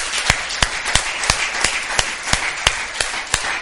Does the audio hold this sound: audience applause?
yes